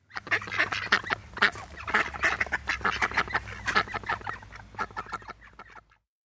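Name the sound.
duck quacking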